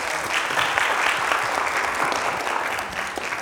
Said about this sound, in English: Let's welcome Charles with a hand clap.